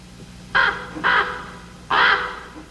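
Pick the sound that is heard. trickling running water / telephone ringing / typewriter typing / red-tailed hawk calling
red-tailed hawk calling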